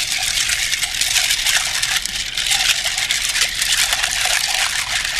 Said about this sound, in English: Okay, first we're going to be adding 2 ounces of the Midnight Moon's Apple Pie Moonshine. And then we're going to do 0.75 ounces of the Butterscotch Schnapps. And we're going to do just a splash of sour. We're going to be stirring this one.